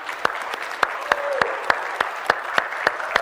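An audience applauds, with a steady wash of clapping and sharp, evenly spaced claps cutting through at a quick, regular rhythm. No one speaks over it.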